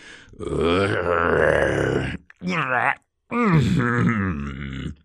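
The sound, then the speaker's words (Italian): A voice lets out strained, effortful grunts and groans in three bursts, a long one, a short one, then another long one, loud, with brief breathless pauses between, while panting and dragging a heavy tree. “Grugnì mentre trascinava l'albero ansimando.”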